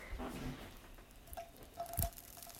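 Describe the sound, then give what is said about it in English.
Water droplets from a hand sizzle and spit on a hot pan during a test of the pan's heat, in a few quick, crackling bursts, fairly quiet, with a sharper pop near the end and no voices. “You hear that? That is a sizzle. That means you're ready.”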